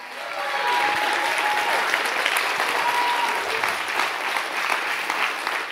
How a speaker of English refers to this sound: Stand on your feet and give the Lord the biggest hand clap that you've ever given anybody.